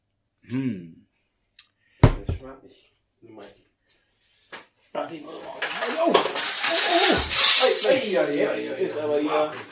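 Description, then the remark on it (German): A few sharp metallic clinks and taps of metal crown bottle caps from a container full of them, then a dense, loud rattling clatter as many caps jostle and fall, with a voice murmuring briefly underneath. “Da waren ganz viele Kronkorken drin, Entschuldigung. Ja, ein, zwei sind runtergefallen, ne?”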